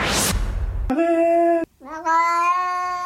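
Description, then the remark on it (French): After a short burst of hiss, a small cat lets out two loud, drawn-out meows in quick succession, their wavering tone uncannily resembling the French word "arrête". “On peut réécouter le petit chat qui fait arrête.”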